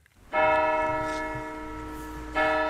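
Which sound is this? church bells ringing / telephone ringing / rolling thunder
church bells ringing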